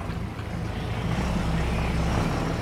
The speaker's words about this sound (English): Let's listen, shall we? Here it comes. This is the boat coming into the dock right now.